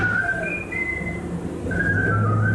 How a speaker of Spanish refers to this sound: Un silbido se escucha a lo lejos.